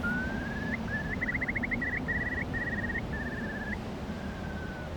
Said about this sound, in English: Is that a bird? A curlew. Don't suppose you get them in London.